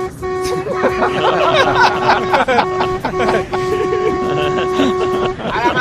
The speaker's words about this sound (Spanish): ¡A la Madrid! En el camión ahí y dándole al claxon.